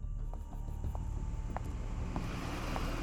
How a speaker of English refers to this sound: Watch that car! Get out of the road! It's gonna hit you! Luckily, the driver saw Cricket. The car was able to slow down in time, leaving Cricket unscathed.